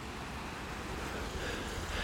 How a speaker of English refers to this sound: And as you can hear, I'm now out of the built-up area of Dyce and just going past this river. And there's a little rapid section down there.